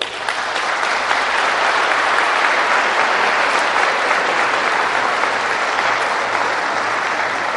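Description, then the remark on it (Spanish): An audience of people happy to be married to their partners claps steadily for several seconds, a dense, even wash of many hands with no break, holding at a consistent loud level throughout and no voices rising above it. “Los que se sientan felices de estar casados con la pareja que tienen, por favor, den un aplauso.”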